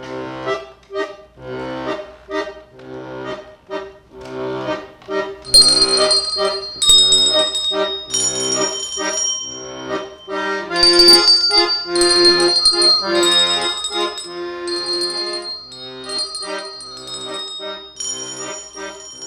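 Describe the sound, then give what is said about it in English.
A handbell choir rings out a melody, many bright bell tones overlapping and sustaining in a steady rhythm, full, with no voices; a conductor points at each ringer whose bell should sound. “So it's I conduct the bell choir.”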